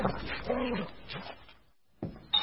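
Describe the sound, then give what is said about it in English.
Dogs whimper and whine, their voices rising and falling, then after a brief lull come two short, sharp bark-like bursts. “Well, can't really with the dogs, but I suppose you could come for a drink at mine.”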